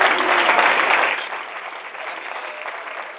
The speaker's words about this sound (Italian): Mi fate un applauso mentre bevo, grazie.